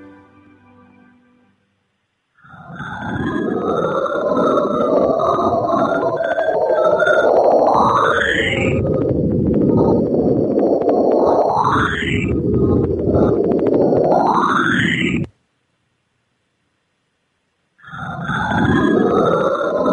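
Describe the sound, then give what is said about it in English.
Dense, roaring radio static carries three swooping tones that each glide sharply upward in pitch, each produced by a meteor striking chunks of a planet's rings. The noise cuts out abruptly for a few seconds, then returns. “The evidence suggests that each tone is produced by the impact of a meteor on the chunks of the planet's rings.”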